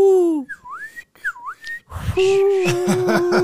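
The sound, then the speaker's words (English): A person imitates an attention-getting whistle, a few rising and falling calls, two swooping notes in a row, followed by voiced, breathy attempts that wobble and crack, fairly loud. “We were quietly talking amongst ourselves when suddenly I hear a very distant whistle, the kind that someone makes to grab someone's attention.”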